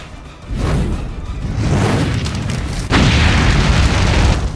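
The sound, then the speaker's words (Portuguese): A roaring fireball blast as a mage conjures a fireball at a demon beast: a low rumbling whoosh swells in at the start, then a second sharp, loud burst hits near the end and keeps roaring, with no voices. “Na hora que o demônio vai na direção do mago, o mago faz uns gestos com as mãos e as suas mãos começam a pegar fogo e ele conjura um fireball na besta.”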